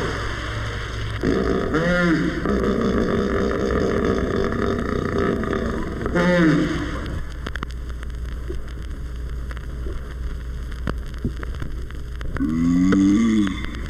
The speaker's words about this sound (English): Here's another member of the pachyderm family. Listen as 4,000 pounds of hippopotamus surfaces in its pool and issues its call.